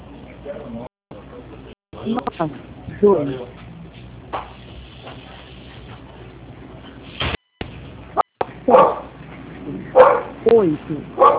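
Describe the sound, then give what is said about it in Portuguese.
A dog barks in several sharp, uneven bursts, with a muffled, narrow sound like it is coming over a phone line, and voices can be heard between the barks. “Deixa eu falar, se a gente não botasse o serviço com esse cachorro, eu tinha morrido.”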